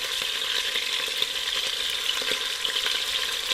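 Meat rolls sear in hot melted lard in a pressure cooker, browning golden on each side, with a steady, dense sizzle and crackle, small pops flickering through the continuous frying hiss; nobody speaks.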